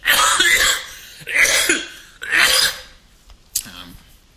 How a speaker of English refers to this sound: I'm going to cough now.